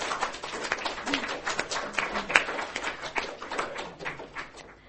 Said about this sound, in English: How about a round of applause for both Gary and Bruce for their time today?